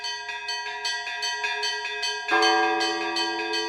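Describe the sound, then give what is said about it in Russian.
Old church bells ring in Porplishche for the patronal Feast of the Transfiguration, in a rapid, overlapping peal, bright repeated strikes over a sustained metallic hum, with a deeper bell joining partway through and the ringing growing fuller and louder. “Старинные колокола из века в век несут небу и людям благодатную радость.”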